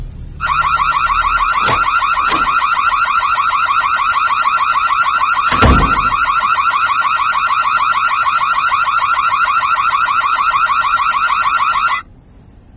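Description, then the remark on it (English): A loud electronic security alarm system blares in one steady, buzzing tone for about eleven seconds, with a few brief knocks partway through, then cuts off abruptly. No one speaks. “Didn't have to trigger the alarm system to get me over here.”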